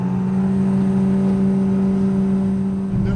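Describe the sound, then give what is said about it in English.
A motorboat engine drones steadily and loudly, a constant low throbbing hum with no pauses and no voices over it, from a boat on the Kissimmee canal in central Florida, about 35 feet deep and 400 feet wide. “I'm on a boat”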